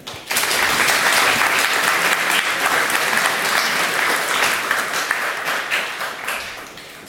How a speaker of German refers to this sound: Ich wünsche euch viel Spaß in der nächsten Stunde, den Vortrag zu lauschen und eine warme Runde Applaus für dich.